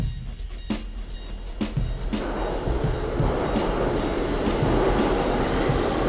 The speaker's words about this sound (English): On the train, headed out to Brooklyn now, on the way to Queens